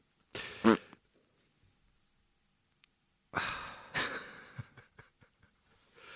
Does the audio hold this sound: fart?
yes